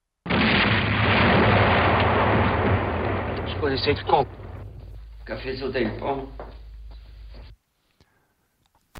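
A loud explosion erupts and roars for several seconds, then breaks into crackling, rumbling debris that trails off into silence.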